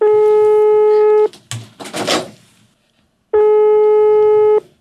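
Two long, steady telephone ringing tones separated by a pause, each a bright sustained electronic buzz with layered harmonics, as a call is placed from a studio to someone in Kecskemét; a brief burst of muffled voices and noise fills the gap between rings.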